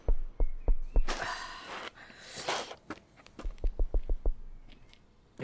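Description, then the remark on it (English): Sharp, hollow knocks on a door: a few spaced raps, a stretch of breathy rustling, then a quicker run of about half a dozen firm knocks with no one speaking. “Soft thy knocking, saucy knave.”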